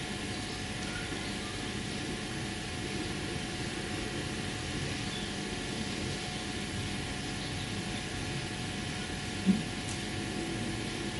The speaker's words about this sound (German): Ich höre immer wieder die Blätter da draußen, den Wind so rauschen.